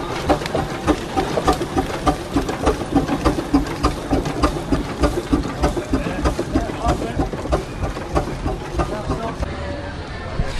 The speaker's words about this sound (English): We can't miss that sound. And here's the second of the big steam engines. This is the Livingston RDC. Travelling slowly, that's why it's a bit quiet.